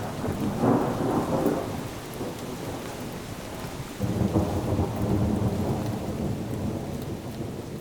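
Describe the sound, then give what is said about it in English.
Steady, heavy rain pours down continuously on a late summer day in eastern Wisconsin, with deep rumbles of thunder rolling underneath, swelling again about halfway through. No voices are heard. “This is Speaking of Faith, and I'm Krista Tippett with a radio pilgrimage with Thich Nhat Hanh on a rainy late summer day in eastern Wisconsin.”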